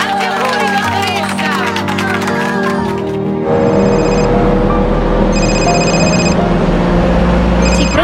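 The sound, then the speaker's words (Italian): A phone rings in repeated electronic bursts, about three rings separated by short pauses, cutting through a loud, rumbling background that follows a few seconds of busy crowd-like noise. “Rispondere al telefono non è un incidente, è una scelta.”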